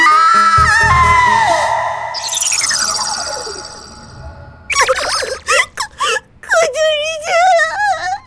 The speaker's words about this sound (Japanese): あんた何泣いてんのよ。